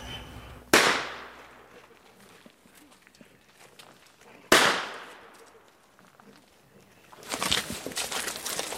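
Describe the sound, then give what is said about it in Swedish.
Two loud gunshots about four seconds apart, fired with a dog present, each a sharp crack with a long echoing tail outdoors, followed by rustling movement and footsteps. “Hon var lite ovan vid skotten och spelade ganska rejält.”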